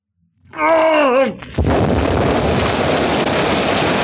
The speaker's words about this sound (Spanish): Nueva explosión que estremece el paraje y los edificios. Y otro siniestro borbotón brotando del fondo del mar.